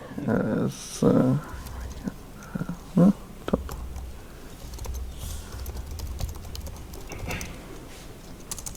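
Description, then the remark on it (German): Rapid keystrokes patter in an uneven stream on a computer keyboard with an American layout, preceded by a few brief vocal sounds, with quieter clicks continuing over a low background hum. “Du kannst unten auf die Tastatur klicken und...”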